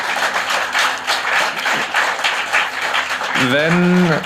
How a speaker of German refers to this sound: Das ist euer Applaus.